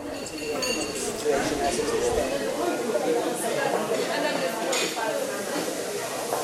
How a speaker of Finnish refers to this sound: Hiljaista kansaa vaeltaa Kapucinfraijarin katukeittiölle. Perunarasva tirisee, paahtoleivät pompahtelevat, salissa on värikäs nurkka lapsiperheille.